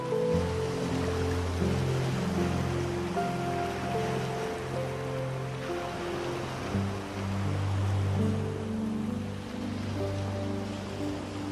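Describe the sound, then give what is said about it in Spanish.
Steady, continuous wash of ocean waves rolling in, heard under soft sustained musical tones that hold and shift slowly throughout, with no voices present. “Cierra tus ojos y siente y escucha las olas del mar.”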